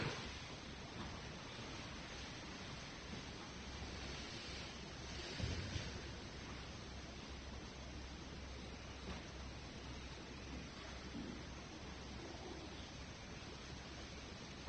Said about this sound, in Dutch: Dat geluid van het water, dat water ben jezelf. Intern.